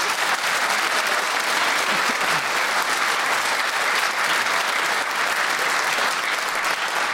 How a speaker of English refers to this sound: But you can have this fortissimo round of applause.